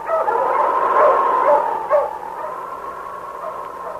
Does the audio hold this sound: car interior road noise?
no